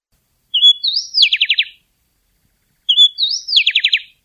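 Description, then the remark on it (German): A happy wren, a species found mainly in Mexico, sings its solo song: the same clear phrase twice, each starting with whistled notes that rise, then ending in a quick run of four or five descending trills, with silence between. Loud. “Das ist hier der Buntwangen-Zaunkönig, Hauptverbreitungsgebiet Mexiko. Hören wir uns mal dem seinen Solo-Gesang an.”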